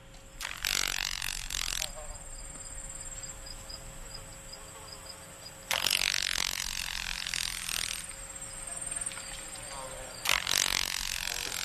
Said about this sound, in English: Shorthorn, because it's got an interesting sound, and I know you have a piece of sound of the Carolina grasshopper on your CD, and I think we've got that sound.